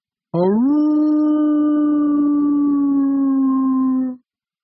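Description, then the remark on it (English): A seal in the water sings one long, loud, howling moan that swoops upward at the start, then holds a steady, mournful pitch for about four seconds before cutting off. No one speaks. “Meg joined me and sang to them, and now, of course, they sang back.”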